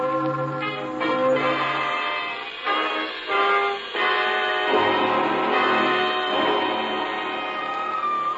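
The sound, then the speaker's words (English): Church wedding bells peal continuously on a Sunday morning, their overlapping strikes ringing out in a rich, clanging wash that swells and fades in waves, fairly loud and with no voices over them. “Those are wedding bells, darling. Wedding bells for us.”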